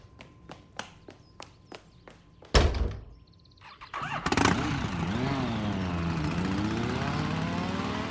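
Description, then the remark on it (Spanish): A few footsteps and a heavy thunk, then Micho's motorcycle, being taken, cranks to life, revs up and down, and settles into a loud, steady rumble. “Me llevo la moto de Micho.”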